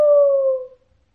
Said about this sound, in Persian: اما مگه خروسه میذاشتون بخوابه؟ هر چند ثانیه بار میپرید و صدا میداد قوقل قوقو.